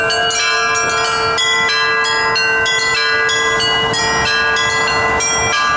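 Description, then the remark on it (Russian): Bells of a portable belfry mounted on a boat ring in a steady, melodic sequence during a 10-day river float past riverside villages, strikes overlapping with rich sustained tones, loud with no voices. “10 дней, пока длился сплав, над Томио и у прибрежных населенных пунктов раздавался мелодичный звон переносной звонницы, которая была установлена на одном из катеров.”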